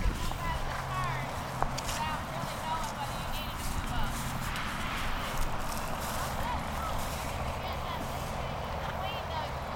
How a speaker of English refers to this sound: and they are schooling their horses to get ready to start actually showing them tomorrow. So it's like a dress rehearsal. It's a dress rehearsal. It's a practice.